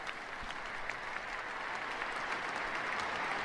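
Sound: audience clapping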